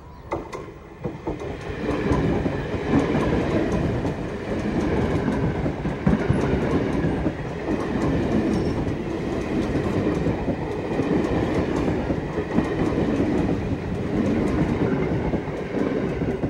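A train rolls steadily along the rails with a loud, continuous low rumble and faint rhythmic clatter of wheels, sustained throughout without any voices.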